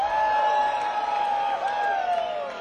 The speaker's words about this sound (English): I know y'all can do better than that. Do …, y'all. Give him a scream.